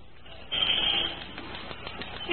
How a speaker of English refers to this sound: Maybe you ought to use the glass cutter some more.